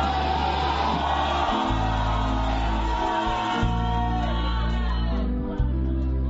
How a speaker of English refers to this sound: Now shout hallelujah again.